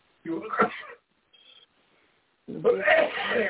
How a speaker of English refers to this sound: Rebuke that cough in the name of Jesus. In the name of Jesus Christ, we rebuke that cough in the name of Jesus.